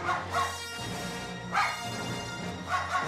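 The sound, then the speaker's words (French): Dogs bark in pitched, evenly spaced bursts that trace out the Star Wars theme over a steady musical backing, the loud barks standing out sharply against the accompaniment. “Des chiens qui chantent le générique de Star Wars.”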